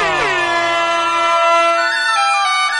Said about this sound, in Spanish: Dale a la bocina,